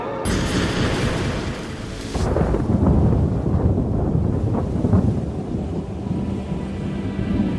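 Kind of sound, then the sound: nature, thunder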